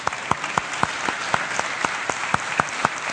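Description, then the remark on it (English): An audience of the Coleman Park Church in Tacoma Park, Maryland applauds steadily, a dense wash of many hands with a few sharper, regular claps standing out roughly every quarter second. No voices come through the clapping. “And that needs to be applauded.”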